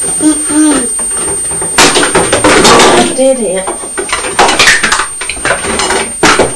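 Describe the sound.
Everything is knocked out of a cupboard while a water sprayer is being put away: a clattering tumble of household objects falling and knocking together, with repeated bangs and rattles of hard items hitting each other, while a voice murmurs in the background.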